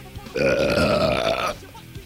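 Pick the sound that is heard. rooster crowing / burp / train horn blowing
burp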